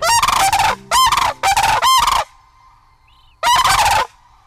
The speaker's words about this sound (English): Sandhill cranes announce spring has arrived with their resonant trumpeting in the sky and loud unison calls on the ground. The arrival of Homer's most charismatic and iconic bird, the lesser sandhill crane, happens on average April 12th.